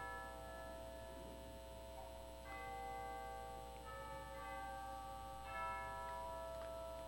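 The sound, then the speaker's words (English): Church bells down the street ring out on Christmas Eve in a few slow, overlapping strikes, each leaving a long shimmering hum that lingers. The peals sound soft, with no voices. “And with those words, the church bells down the street started to ring, announcing the birth of Jesus Christ.”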